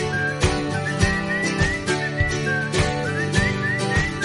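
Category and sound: human body sound, person whistling a tune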